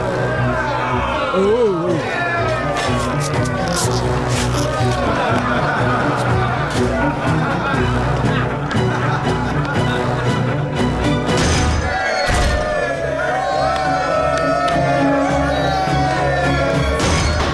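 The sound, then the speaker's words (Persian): A chaotic crowd brawl as slaves attack a guard: many voices shout and yell over one another while heavy thuds and crashing blows land throughout, loud, with the tumult never letting up. “همه غلام ها حمله کردن.”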